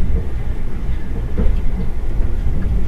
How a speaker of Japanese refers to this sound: それではロマンスカー車内でのひととき、どうぞごゆっくりと過ごしください。